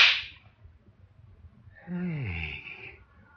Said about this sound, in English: Hey. You slapped me. I'll do more than slap you.